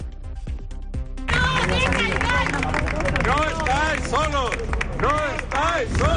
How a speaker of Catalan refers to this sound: aquí a la Prefectura Superior de Policia de Catalunya s'està vivint un ambient de protesta respecte a les mesures que ha pres el PSOE per a convertir aquesta zona en un centre de memòria democràtica.